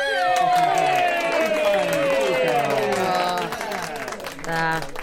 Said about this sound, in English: Cheers. Applause.